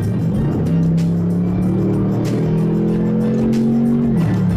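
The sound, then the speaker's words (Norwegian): A sports car engine roars at full throttle, its loud, steady drone rising slowly in pitch for about four seconds before easing off sharply near the end; no one speaks. “Og hvis du skal for eksempel kjøre forbi en sinke, så det bare å trykke gassen I bånd, og så tar dette av skikkelig.”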